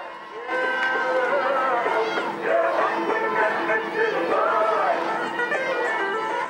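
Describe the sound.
A large, dense crowd runs along ancient streets, shouting and cheering in praise of Saddam as he walks among them, many voices overlapping in an excited roar, with a sense of people moving and calling out together in an open street.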